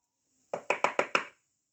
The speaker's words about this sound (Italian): Sì, qualcuno bussava. La vecchietta si alzò e si diresse pian piano verso la porta, mentre sentiva bussare sempre più forte.